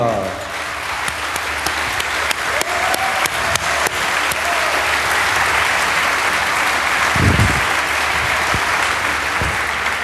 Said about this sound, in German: Und da bitten wir dann mal auf die Bühne, die Julia. Wo ist sie? Hallo. Hinter euch. Ah. Hinter uns. Ein Applaus für Julia Reda.